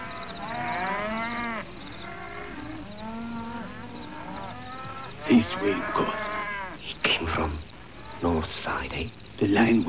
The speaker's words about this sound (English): Listen to the cattle, Nkosi. They know the line is near.